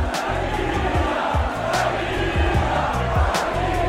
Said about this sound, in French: Gérard Piqué qui est dans une boîte de nuit à Madrid en juillet, quelques mois après tout leur bazar médiatique. Et tout d'un coup, tout le public de la boîte se met à le montrer du doigt en criant à l'unisson « Shakira, Shakira !» Enfin, comme ça.